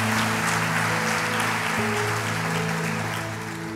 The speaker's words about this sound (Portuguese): E a igreja diz: amém, aleluia. Se é para Jesus, aplauda mesmo.